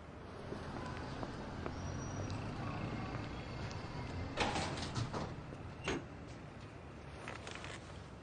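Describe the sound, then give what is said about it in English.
A door slides and bumps shut, with a couple of brief knocks and rattles around the closing, then stillness. “I'll close the door and I'll be right in.”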